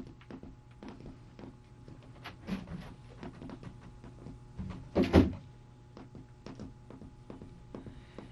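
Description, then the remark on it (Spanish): Steady footsteps tap along as someone is accompanied to the door, then a door opens and shuts with a loud, heavy thud midway before the walking carries on. “Le acompaño a la puerta.”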